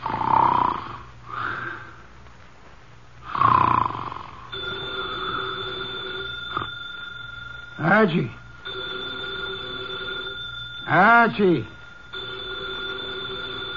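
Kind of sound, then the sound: household object, telephone bell ringing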